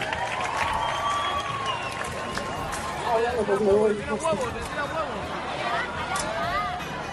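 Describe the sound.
An audience breaks into steady, dense applause for several seconds, with cheers and a babble of excited voices rising through the middle before the clapping carries on to the end.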